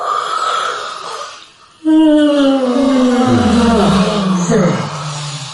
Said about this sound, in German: Wir gähnen als erstes dreimal hintereinander.